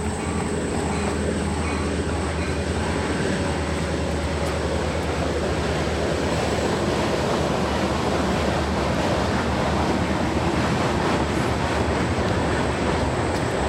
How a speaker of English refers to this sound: Seems like every time I run over here nowadays, a train goes by.